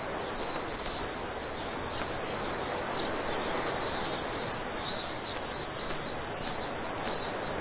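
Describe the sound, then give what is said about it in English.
A large flock of Vaux's swifts, as many as 40,000, pours into a Portland chimney to roost for the night in mid-September, filling the air with dense, continuous high-pitched chittering and twittering, a steady shimmering wash of countless overlapping calls with no pauses and no voices. “In as little as 20 minutes, as many as 40,000 swifts pack into the chimney for the night.”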